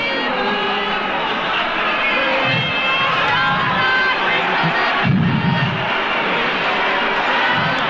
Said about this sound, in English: the students have started again, somewhat weakly, their chant of "We shall not be moved." We shall not be moved.